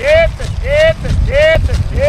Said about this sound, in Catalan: Aquest és en … cridant a les seves vaques perquè baixin de la muntanya a menjar sal